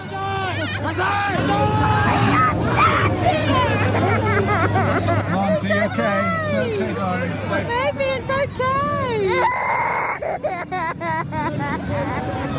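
A loud, dense crowd at an outdoor Santa (Mikuláš) parade on the evening of December 5th, 2018, as demon helpers appear, full of overlapping children crying and shrill screaming that rises and falls throughout, with a steady low engine-like hum underneath.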